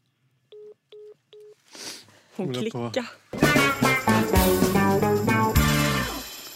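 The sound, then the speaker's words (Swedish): Three short, evenly spaced telephone keypad tones beep clearly in quick succession as someone dials the Dramaten theatre, before voices and busy background sound take over. “Nu ringer jag Dramaten så får du se hur det blir.”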